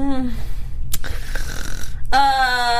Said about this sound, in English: Did you just fall asleep? No. I thought that was a snore too. I was like, what?